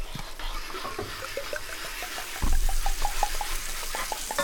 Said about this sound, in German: So, gibst mir einmal das Wasser bitte. Ja. Hier. Ja, einmal reinkippen bitte. Ich rühre nochmal.